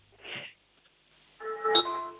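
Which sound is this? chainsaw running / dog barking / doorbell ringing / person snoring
doorbell ringing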